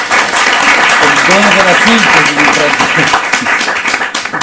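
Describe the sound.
Steady, loud audience applause at a book presentation fills the whole clip, for a novelist after she speaks about her novel, a dense wash of many hands clapping, with a few voices briefly rising over it midway.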